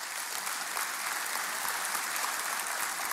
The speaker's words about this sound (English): Let's give a clap offering to Jesus, folks.